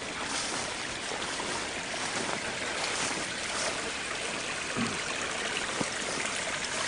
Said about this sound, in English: Anyway, this is Trail Creek. Beautiful. On up there is the headwaters of Trail Creek.